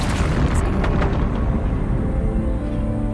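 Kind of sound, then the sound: nature, thunder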